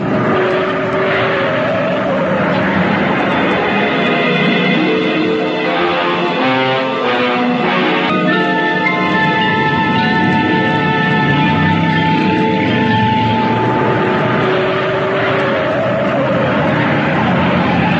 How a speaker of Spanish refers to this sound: El freno al máximo. El pequeño auto se zigzagueó peligrosamente en la carretera.